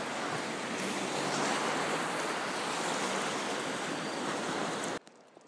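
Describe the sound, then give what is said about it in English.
The water of the River Thames, in full flow, surges beneath Richmond Bridge in a steady, dense rushing roar that holds at an even loudness for about five seconds, then cuts off abruptly. No one speaks. “So, here I pause underneath Richmond Bridge with the water of the Thames surging beneath.”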